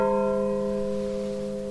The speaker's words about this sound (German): Und was würde so eine alte Glocke wohl erzählen, wenn sie sprechen könnte?